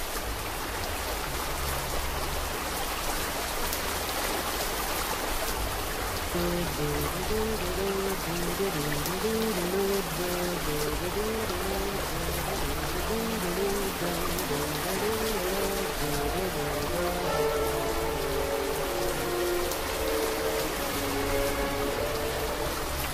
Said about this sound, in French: Ba ba da ba ba ba, ba ba da ba ba ba, la pluie.